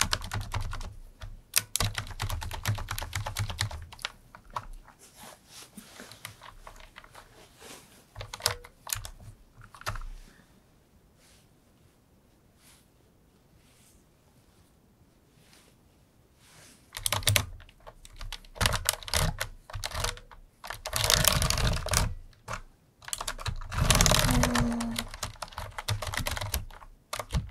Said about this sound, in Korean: 어쩐지 키보드가 잘 안 눌러지더라.